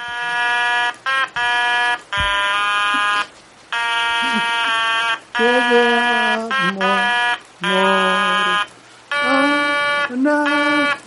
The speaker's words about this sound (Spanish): Entonces, tú imagínate esta canción que vamos a escuchar ahora en el anuncio de la Lotería de Navidad del año que viene. Es una canción hecha con una bocina, pero es muy bonita, mira.